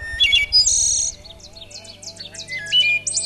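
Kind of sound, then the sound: bird, ovenbird singing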